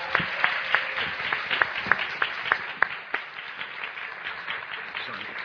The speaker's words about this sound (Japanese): 皆さん温かい拍手で招いてください。